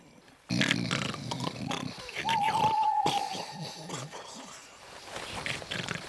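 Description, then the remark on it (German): Loud, rasping snoring, with deep rumbling snorts on the inhale and a thin whistling tone partway through, continuing in uneven breaths, from someone who has fallen asleep in a quiet forest at night. “Der ist eingeschlafen und schnarcht.”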